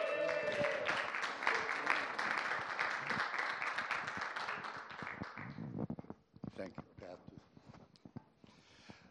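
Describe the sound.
A crowd claps and cheers loudly to welcome a new guest who has come up to share a prophetic word. The cheering is a dense, steady burst that thins out after about six seconds into a few scattered claps and voices.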